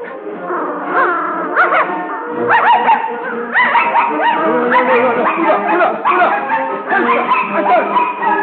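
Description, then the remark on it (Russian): A young ginger dog, a dachshund-mongrel mix, whimpers and yips almost continuously, its high whining cries rising and falling in pitch with short bark-like bursts, fairly loud throughout. “Каштанка — молодая рыжая собака, помесь таксы с дворняжкой.”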